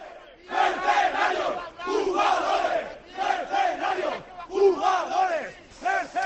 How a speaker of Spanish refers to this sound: Es el sonido en directo de la llegada de los dos autocares desde Villarreal. Y estos son los gritos de los seguidores.